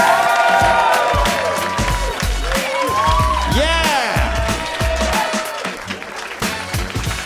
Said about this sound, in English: Yes, keep clapping for your next comic.